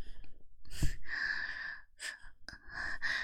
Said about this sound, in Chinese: 好凉，你吹这么大口气干嘛？